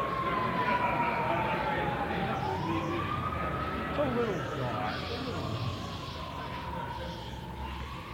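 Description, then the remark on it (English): Fire engine sirens wail outside as the engines pass, in slow rising and falling sweeps, steady and somewhat muffled, over a constant background murmur of people gathered at a conference banquet. “We'll let the fire engines pass.”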